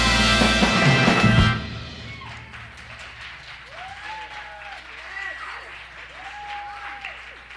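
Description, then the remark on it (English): An audience claps in a loud, dense burst for about a second and a half, then the applause thins to a softer patter beneath people talking. “Are they clapping for me?”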